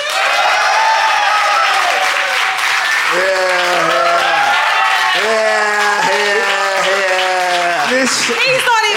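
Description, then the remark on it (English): The LOL Fest live audience applauds loudly and steadily throughout, voting by applause, the dense clapping mixed with whoops and shouted cheers from the crowd. “No, instead, I'm going to call upon the LOL Fest audience to decide. So if you think Ben and John, and therefore Jack J, is in the right, applaud now.”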